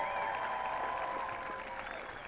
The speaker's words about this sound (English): We have a large group of parents here. All of our parents are here in the audience today. So just give them a round of applause.